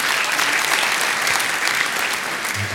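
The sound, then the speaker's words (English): A room full of people claps steadily after being shown a picture of an awkward teenage boy during a presentation, a dense wash of many hands applauding at a fairly loud, even level for a few seconds. “I love the fact there's a round of applause for showing a picture of an awkward teenage boy, but there you go.”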